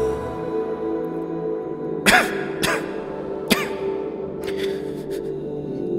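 Three short, harsh coughs ring out close by, two in quick succession and then a third a moment later, over a steady low hum of background sound.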